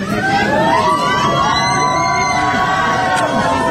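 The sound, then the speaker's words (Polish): A large crowd of fans at the airport in Warsaw cheers and shouts loudly and continuously as they welcome the Polish volleyball players home from winning the Nations League in China, with whoops and high-pitched voices rising over a dense wall of noise. “Wylądowali na lotnisku w Warszawie, witani przez rzesze kibiców.”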